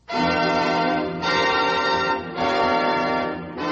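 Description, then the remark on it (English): Loud, resonant, merry Christmas bells ring out in a steady rhythm, about four strikes a second or so apart, each one swelling and blending into a rich, sustained clang with no voices present. “Happy Holidays, while the merry bells keep ringing, may your every wish come true.”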